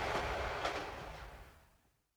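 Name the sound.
inside a moving train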